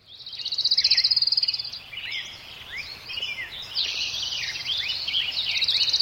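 Dense outdoor chorus of many birds chirping and warbling over a steady high insect trill, continuous, with a soft low background rumble and no voices.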